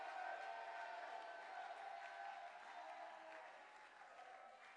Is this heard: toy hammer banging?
no